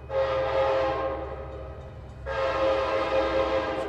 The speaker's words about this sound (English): Okay, I'm on the Cascades train heading southbound now and doing something right now that I certainly was not able to do on the bus, which is I'm sitting in the cafe car enjoying a hot dinner and the Columbia River is rolling along to my right.